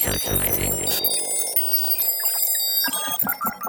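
A rapid flurry of bright electronic beeps and chiming tones, a calculator sound effect for running an inflation calculator, playing loud after a brief low thud, with no talking.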